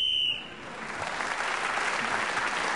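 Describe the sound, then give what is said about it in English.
A single short, shrill whistle blast marks the end of a round in a radio panel game as Clement Freud is speaking, then quickly gives way to sustained applause from an audience. “So, Clement Freud speaking as a whistle went, gained that extra point.”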